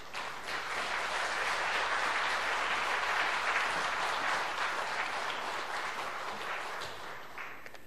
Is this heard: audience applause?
yes